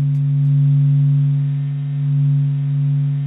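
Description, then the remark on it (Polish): Sonified vibrations of the Sun, generated from SOHO space probe data: a low, steady electronic drone of layered humming tones that swells and eases slowly in loudness, heard alone without any voices. “Ten dźwięk został wygenerowany na podstawie danych z sondy kosmicznej SOHO.”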